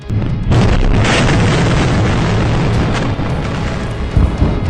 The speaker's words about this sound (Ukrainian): Близько першого дня в Харкові знову чутно вибухи.